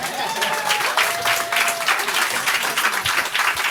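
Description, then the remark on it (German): Steady applause from a crowd, many hands clapping in a dense, even patter throughout, with a faint whistle-like tone drifting in the background early on. “Ich kann nicht klatschen.”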